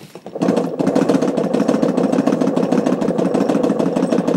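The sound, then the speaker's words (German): A film camera's film transport mechanism runs steadily at 16 frames per second, a fast mechanical clatter of rapid, evenly spaced ticks over a low whirring motor hum, starting abruptly and continuing at constant loudness with no talking. “Das Geräusch, das wir gehört haben, ist der Filmtransport.”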